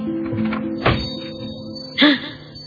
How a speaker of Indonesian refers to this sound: aku mendengar suara pintu kamarku terbuka. Otomatis aku menoleh ke belakang untuk tahu siapa yang masuk ke kamarku.